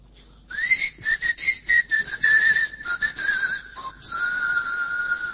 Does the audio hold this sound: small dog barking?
no